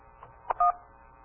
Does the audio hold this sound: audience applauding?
no